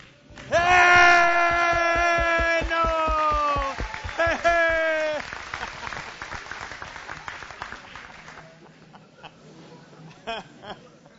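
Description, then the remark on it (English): Loud, sustained whooping cheers ring out over clapping from an audience giving a standing ovation for about five seconds, then the applause thins into scattered claps and chatter that gradually fade. “Let's give him a standing O. Just stand up and cheer.”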